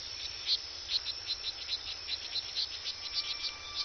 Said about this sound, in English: This forest in Costa Rica is full of frogs calling to their mates. There don't seem to be many pools and streams around here.